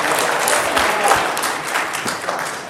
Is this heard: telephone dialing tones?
no